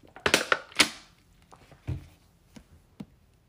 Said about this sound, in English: If you heard my water bottle crackle, I'm sorry for that.